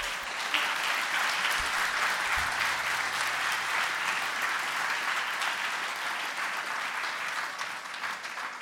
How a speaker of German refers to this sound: Nochmal ein herzliches Applaus, glaube ich, das war gut.